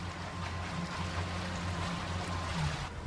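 The engine of a Hornblower water bus hums steadily at low pitch while water swishes and splashes around the hull as it cruises on a tour of the marina at Marina Del Rey, with no talking.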